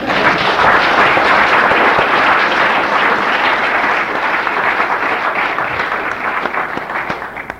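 A convention audience applauds steadily, a dense wash of many hands clapping at full volume that tapers off slightly toward the end, with no voices over it.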